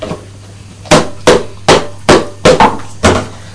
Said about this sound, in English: Well, I think perhaps some men on the other side were using a hammer to demolish the old wall.